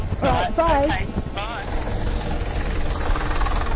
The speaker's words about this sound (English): Here's the bus. Hiya, number 20.